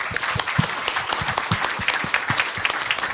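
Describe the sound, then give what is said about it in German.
Applause from a group, a dense stream of overlapping claps with sharp, irregular transients, steady and moderately loud throughout, with no voices over it. “Also erstmal Applaus.”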